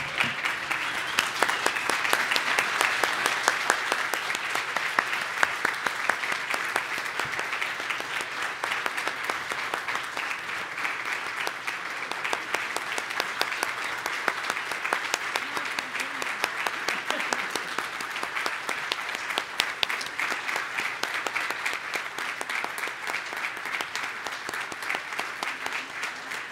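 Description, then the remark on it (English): Sustained applause from a large standing audience, a dense steady wash of clapping that holds at a fairly even level for nearly half a minute, with no voices standing out. “I'd like to ask you to please stand and applaud”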